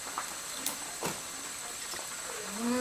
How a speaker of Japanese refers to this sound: エビをドーン。あ、入れちゃった。グツグツしてますよ。おー、ドーン。